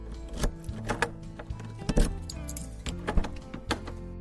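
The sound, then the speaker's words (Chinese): A father unlocks and opens the door of a secondhand house that a family is viewing: a handful of sharp metallic clicks and rattles at uneven intervals, like keys working a lock and a latch giving way, with no talking. “爸爸打开门，小声提醒斑斑”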